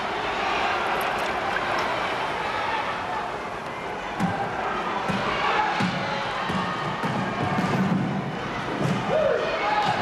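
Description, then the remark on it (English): A large crowd roars and cheers in a steady, loud wash of noise for about ten seconds at a basketball game, welcoming the Milk Trotters team, with occasional dull thuds and swells in the din. “What a welcome the crowd is giving the Milk Trotters today.”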